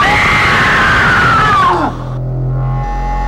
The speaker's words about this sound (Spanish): Yo grito para allá. Pero no, yo me voy a parar, parate porque es mejor. Ah, más aire, ¿no? Y a la cuenta de tres, sí. Grito colosal de los dos.